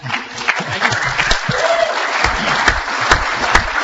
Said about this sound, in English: They're clapping for you now,